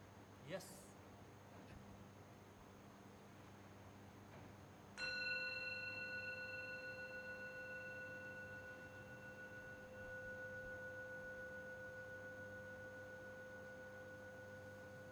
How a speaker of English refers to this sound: Shiva says, when listening to bells, put attention on the silence before I hit the bell and the silence after the bell has rung out. We can do that. Are you ready?